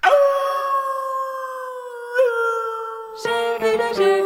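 A wolf gives a long, steady, loud howl that dips slightly in pitch, then several more howls join in, overlapping in a dense, wavering chorus near the end.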